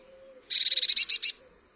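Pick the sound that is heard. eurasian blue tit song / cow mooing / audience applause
eurasian blue tit song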